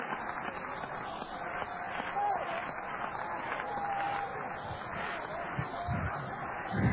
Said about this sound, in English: Come on, clap your hands to Jesus.